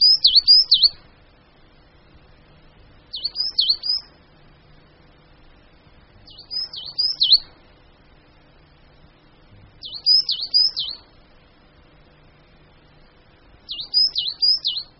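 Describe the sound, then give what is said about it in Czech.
A coal tit sings in short, high-pitched phrases of quick repeated notes. Five bursts come at regular intervals about three seconds apart against a quiet background, and no one speaks. “Stejně jako sýkora koňadra a modřinka, hnízdí i sýkora uhelníček v dutinách.”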